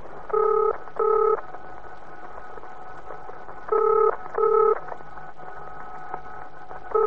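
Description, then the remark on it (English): A telephone being dialed with touch-tone beeps: two quick tones, a pause, two more, then another starting at the end, each a bright electronic beep over a faint steady hum. “I'm going to phone her, find out what this is all about.”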